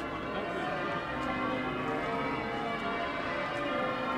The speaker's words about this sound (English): It's a bright blue-skied morning in early April, the eve of the Easter weekend. The church bells of York Minster are ringing out as the crowds gather around the cathedral.